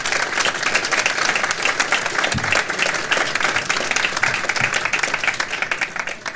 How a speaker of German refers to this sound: Vielen Dank, dein Applaus.